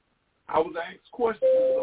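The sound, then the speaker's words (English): A computer notification chime sounds as one steady, mid-pitched electronic tone that holds to the end, right after a short burst of someone talking. “I'm sorry about all that noise, y'all, but I can't help it. Those are notifications.”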